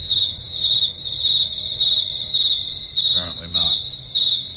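Crickets chirp steadily in a high, shrill trill that pulses in a regular rhythm throughout. A faint voice briefly murmurs underneath partway through.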